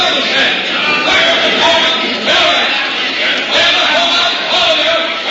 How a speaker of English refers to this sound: The crowd here seems to be breaking up, somewhat roughly herded by the soldiers, and we can hear them.